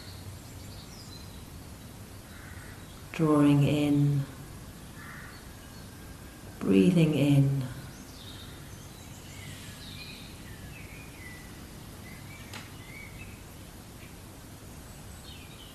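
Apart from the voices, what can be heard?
birds calling outdoors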